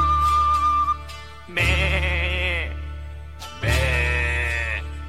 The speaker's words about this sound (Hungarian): Szomorú a birka, mert üres az irka, azért béget, azért sírni, mivel fogja teleírni.